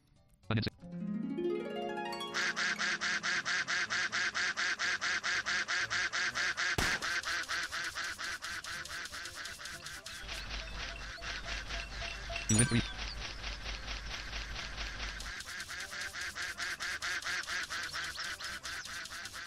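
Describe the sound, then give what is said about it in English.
A duck in a video game mini game quacks loudly and almost continuously, its harsh, nasal honks stacked over bright electronic game sounds for the whole stretch, with no one talking. “Help the duck.”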